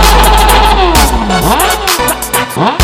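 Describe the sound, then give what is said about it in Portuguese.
A Yamaha R1 sport motorcycle engine revs up and down several times in quick sweeps, loud, riding over a pounding bass beat with sharp percussive hits. “Anda de R1, escuta aí novinho o barulho do zum zum zum.”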